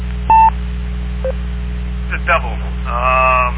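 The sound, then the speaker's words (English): A loud touch-tone beep sounds over a radio repeater as someone calls a phone, then a fainter short tone, over a steady low electrical hum with narrowband radio-style bandwidth; faint voices come through near the end. “Somebody's calling your phone there.”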